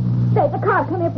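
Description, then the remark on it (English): A car engine hums in a steady, low drone throughout as the car comes up a hill and stops at its foot, with indistinct voices murmuring over it for most of the moment. “The car coming up the hill.”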